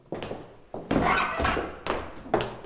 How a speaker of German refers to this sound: Die Treppe hat jetzt wirklich geklungen wie jemand, der furchtbar schreit, wie der Hund, dem er auf den Schwanz tritt. Das Haus ist so voller Geister, wirklich. Gehen Sie mal einfach nur die Treppe hoch. Da quietscht immer irgendjemand mit und stöhnt